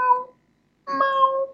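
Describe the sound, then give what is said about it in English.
A person imitates a cat with two meows, a short one and then a longer, drawn-out one after a brief pause. Both are clear, with no other talking. “Or you can do kitty sounds.”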